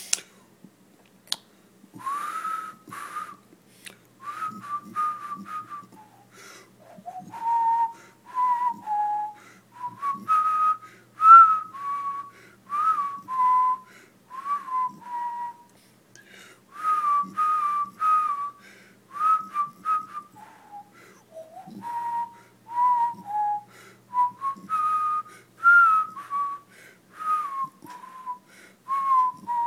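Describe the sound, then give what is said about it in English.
A person whistles a meandering tune close to the microphone, pitch gliding up and down in phrases with short breaths between them, steady and clear for about half a minute, no talking. “Why can I whistle when I'm not trying to do this into the microphone?”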